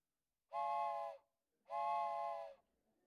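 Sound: train whistle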